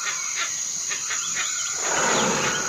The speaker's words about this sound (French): Ah. Le lion. C'est le lion. Et il vit où, le lion? Dans les réserves, eh oui, maintenant le lion il vit dans les réserves, t'as raison.